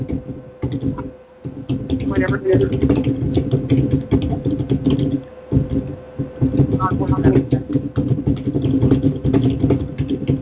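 Rapid, steady typing on a computer keyboard, a dense patter of clicking keys that pauses briefly twice before carrying on.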